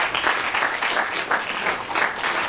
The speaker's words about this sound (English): Okay, who wants to see some singing? Round of applause.